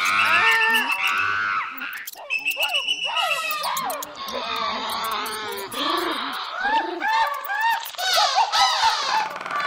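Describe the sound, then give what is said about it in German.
A noisy, crowded chorus of impatient animals aboard an ark: overlapping trumpeting, bleating and cries come thick and fast, with birds' wings fluttering and hooves and claws scraping woven through the restless din. “Immer ungeduldiger scharren sie mit den Hufen und Krallen. Sie tröten, mähen, flattern.”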